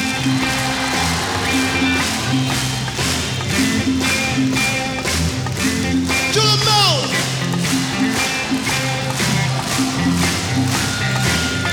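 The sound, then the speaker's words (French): An audience claps in steady unison to a brisk beat at a performer's request, the sharp claps ringing out over loud backing music, with a brief sliding tone partway through. “Alors pour commencer, je vais vous entendre taper dans vos mains.”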